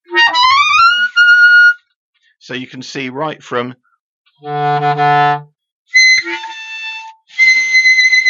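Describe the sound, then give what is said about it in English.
Piercing, squeaky clarinet notes in the very high altissimo range, loud and whistle-like, interrupted by a brief spoken remark and one deep, low held note before the shrill high tones return. “And now we're going to go right up to the top into the altissimo range, which gets very high and quite squeaky.”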